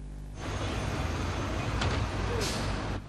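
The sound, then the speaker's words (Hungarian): A BKV route 6 city bus pulls away with a low, steady engine rumble, punctuated by a sharp hiss of air brakes releasing near the end, with no talking. “Indul a 6-os busz.”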